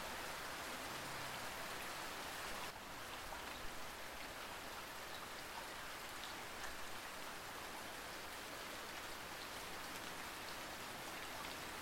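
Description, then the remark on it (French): Steady rain falls at night on the pavements of a big city in a dense, continuous hiss, with drops pattering on the hard surface throughout and no voices. “Imaginez à présent la pluie qui tombe sur les trottoirs d'une grande ville, la nuit.”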